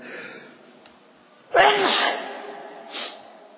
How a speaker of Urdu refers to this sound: جب چھینک آئے تو الحمدللہ کہنا سنت ہے, اور اس کا واجب یہ ہے کہ جو الحمدللہ سنے وہ کیا کہے, یرحمک اللہ.